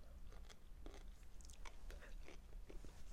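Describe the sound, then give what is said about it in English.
Crisp crunching as front teeth bite into a pickle, with a quick irregular series of sharp cracks and snaps over about three seconds, fairly quiet and with no one talking. “That was my front tooth teeth just piercing it.”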